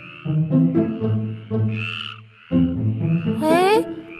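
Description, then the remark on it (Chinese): Loud frog croaking from a neighbour's home across the hall comes in quick repeated bursts. Several frogs call over one another with deep throaty croaks, and a few higher, rising chirps are mixed in. “真的是青蛙的声音耶，而且听起来好像不止一只青蛙，是很多只的青蛙。”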